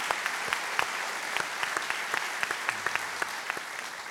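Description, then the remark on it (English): An audience claps steadily, with dense overlapping hand claps forming a continuous wash of sound. Occasional sharper individual claps stand out, holding at a consistent volume throughout. “Absolutely, that is applause worthy.”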